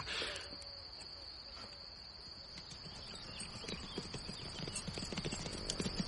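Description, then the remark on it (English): Hooves of Dark Invader, a big horse, clop steadily at a walk round the circuit, then quicken into a faster trotting rhythm that grows slightly louder, with a continuous high insect chirr running underneath throughout. “How the big horse walked, then trotted round the circuit, doing as he was told,”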